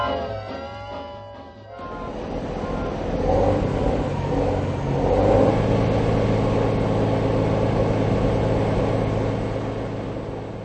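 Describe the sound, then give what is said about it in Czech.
Heavy trucks rumble past in steady traffic, their engines swelling louder and fading as each one goes by. A brief tonal musical sound plays at the very start. “Rostoucí objem nákladní dopravy může mít různé následky. Hluk, znečištění ovzduší, otřesy a tak podobně.”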